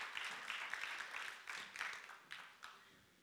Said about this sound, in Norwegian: Ska vi ge en applaus?